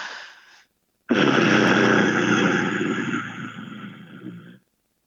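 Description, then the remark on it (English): A person imitates an animal's deep, rasping warning growl: a short rumble, a brief pause, then a long, loud, gravelly growl lasting over three seconds before it fades and stops. “I could probably try and imitate the growl if you wanted me to.”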